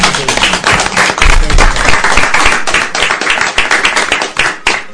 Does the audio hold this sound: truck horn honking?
no